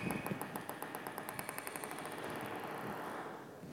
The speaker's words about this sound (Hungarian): Gondolkodtam már azon, hogy amikor így leteszi a, nem egy törölközni, leteszi a labdát, és akkor ez így pattog, akkor mennyi ideig pattog? Hallgassuk meg.